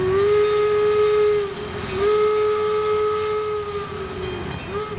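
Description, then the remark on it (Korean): A steam train's whistle blows in long, steady tones, sounding twice with a brief break, over the low rumble and chug of a moving train. It is the special train carrying Abraham Lincoln's remains back to his home state of Illinois. No one speaks. “그리고 나서 유해는 특별열차에 실려서 고향인 일리노이로 돌아갔습니다.”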